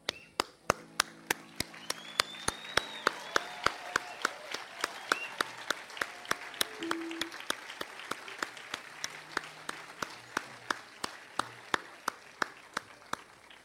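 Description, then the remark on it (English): An audience applauds for about fourteen seconds for audience members who stand, people who came as children and still come as adults, performers or spectators; the claps fall into a steady, rhythmic beat, with some scattered voices and whistle-like tones mixed into the crowd noise. “If you came here as a child and continue to come here as an adult, either as a performer or as a spectator or both, I would like for you to stand right now and let the rest of us applaud you.”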